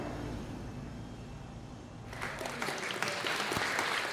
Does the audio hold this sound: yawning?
no